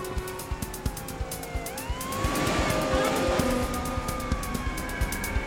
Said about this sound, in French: En entendant le bruit d'une sirène qui approchait, le voleur prit la fuite sans insister.